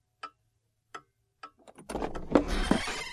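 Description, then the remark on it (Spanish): A clock in an office strikes nine in the morning with three sharp, evenly spaced knocks, then a dense, noisy clatter rises and continues to the end. “A la mañana siguiente en el despacho sonaron las 9 y Beto Cratchit no llegaba.”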